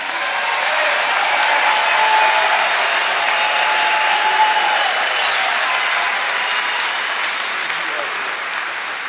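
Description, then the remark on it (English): Steady audience applause for the members of a committee fills the whole stretch, a dense, even wash of many hands clapping at a loud, sustained level with no voices standing out. “These people work real hard on this committee. They need an applause.”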